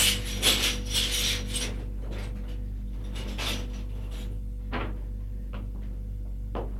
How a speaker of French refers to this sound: Elle sort de la pièce en courant. Ferme la porte à clé.